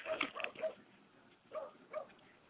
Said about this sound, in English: Dang, now Rob got dogs in the background.